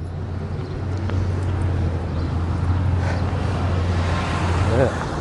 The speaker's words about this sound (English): Whoop, here comes a big truck.